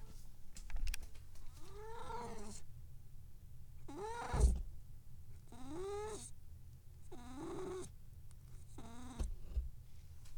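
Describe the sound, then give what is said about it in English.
A cat scratches and digs in a litter box while pooping, in about five separate bursts of gritty scraping, each lasting a second or so. The sound is moderately loud, and no one is talking. “Kitty poop time.”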